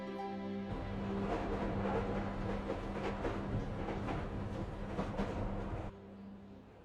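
Steady rumble of a moving train heard from inside the carriage, with rhythmic clattering over the rails and a low hum that eases off near the end. No one speaks.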